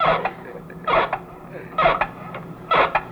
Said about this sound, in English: And oil your knees. He's got squeaky knees.